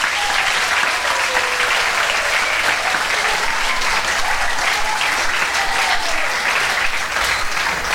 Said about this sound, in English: Bravo, on peut les applaudir les deux ensemble.